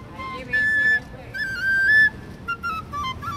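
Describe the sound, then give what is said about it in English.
A street vendor plays a flute near the India Gate, a giant arch over a pedestrian boulevard in central New Delhi, India: a short, high melody of a few held notes with slight bends, then quicker shorter ones, over a steady rumble of background noise and faint murmuring voices. “Avinda Hawk's flutes near the India Gate in the center of New Delhi.”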